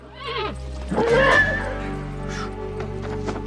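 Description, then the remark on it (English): Three startled horses pulling a sled over snow-covered ground let out a couple of loud, shrill, wavering whinnies, the calls rising and falling over a low, steady background rumble. “Rocky startles three horses pulling a sled.”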